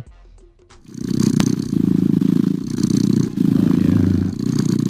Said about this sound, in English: It plays nothing but cat purring sounds to help you relax. You can dial in, focus.